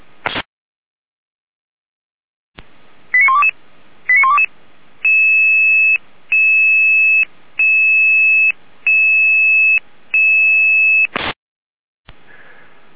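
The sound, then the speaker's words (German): An emergency dispatch alarm call: a couple of quick chirping tone bursts, then five long, steady electronic beeps in an even rhythm, loud and clear, framed by sharp clicks and no talking. “Ja, Alarmruf.”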